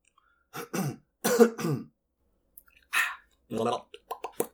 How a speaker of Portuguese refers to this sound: Eita, hora de engasgar.